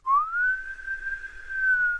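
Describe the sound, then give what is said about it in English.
A person whistles one long, steady note in imitation of the wind, sliding up at the start and then holding level for about two seconds, fairly loud, with no talking. “And all around her and at her back, the wind it whistled.”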